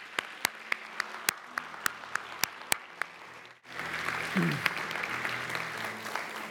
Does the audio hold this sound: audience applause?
yes